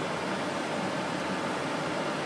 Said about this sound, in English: Well, they're turning on the air, and soon they're going to turn on the airplane. What's that noise for? Airplane. Well, so far the only thing they've turned on is the air conditioning, and it's noisy.